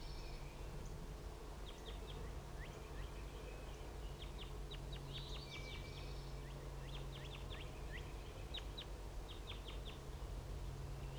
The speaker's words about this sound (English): The crossbills are in the trees around the net site and they're just chittering, and I believe one is going down right now.